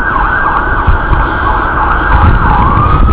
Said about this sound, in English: here comes the ambulance. And there goes the medic, the ambulance.